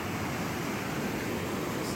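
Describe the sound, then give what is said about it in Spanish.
A steady, loud roar of flash-flood water surging through a canyon, broad and hissing, continuous and unbroken with no voices; recorded on a cellphone, from a storm that began about 11 kilometres upriver. “grabó con su celular el momento en el que la oleada inundó el cañón.”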